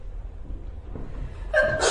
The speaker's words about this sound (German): Gesundheit.